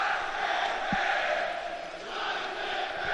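A stadium crowd at a Fürth football match chants in a steady, swelling roar that rises and falls as the Fürth stand and the away fans answer one another, voicing displeasure with the German Football Association, with a brief low thump near the start.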